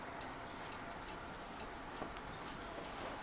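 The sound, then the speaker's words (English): A clock ticks steadily, a quiet, regular series of light clicks over a faint background hiss, with no voices. “That clock is very unfriendly.”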